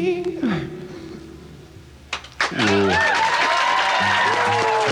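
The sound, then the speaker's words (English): A sung note holds and fades at the end of a live song on radio station CFNY 102.1, then a couple of sharp bursts give way to a loud, sustained roar of crowd cheering and clapping, with high whoops rising above it, startling the singer. “That cheering gave her a bit of a jerk.”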